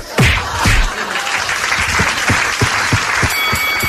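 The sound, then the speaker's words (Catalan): An audience claps steadily throughout for Joan Maria Pou and Laia Coll, a dense wash of many hands with a few sharper individual claps standing out, loud and sustained with no speech over it. “Fan aplaudiment!”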